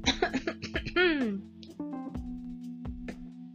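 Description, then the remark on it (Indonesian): A fit of coughing: several harsh coughs in rapid succession, then a strained, falling vocal sound and a few weaker coughs trailing off. “terdengar terbatuk-batuk.”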